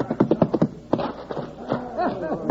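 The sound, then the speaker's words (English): A quick run of sharp horse hoof clip-clops slows and stops after about a second, followed by a voice speaking. “Look at that little white-faced calf go. That horse is staying with him, though.”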